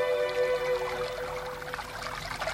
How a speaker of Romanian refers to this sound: Auzea un murmur de apă. Erau niște pâraie care se vărsau într-un lac cu fundul de nisip moale.